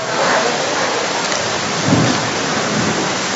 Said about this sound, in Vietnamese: Rồi, thôi trời mưa thì cứ mặc trời mưa có sao đâu.